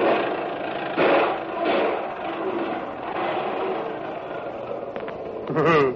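An old car, driven by an old woman, runs steadily with a rough, rattling drone, swelling briefly a few times, and a short higher whine near the end.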